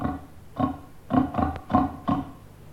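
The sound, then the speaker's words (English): A pig grunts and oinks in a quick run of about five short, snorting bursts, moderately loud, with no talking over it. “And pigs.”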